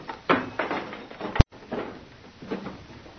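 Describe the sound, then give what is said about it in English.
A door opens with a few scraping, rattling bursts and a sharp click partway through, followed by more shuffling creaks and rustling movement; no one speaks. “at the door.”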